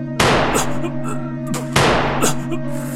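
Two loud gunshots about a second and a half apart, fired at a person's ankles, each a sharp crack trailing into a long ringing decay over a steady electrical hum.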